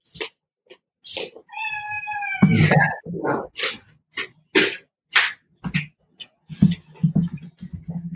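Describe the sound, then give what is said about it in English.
A cat in the background meows repeatedly, with one long, drawn-out harmonic yowl followed by a series of shorter, uneven cries and vocal bursts, fairly loud. “Sorry, I have a cat in the background.”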